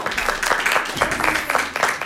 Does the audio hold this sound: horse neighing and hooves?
no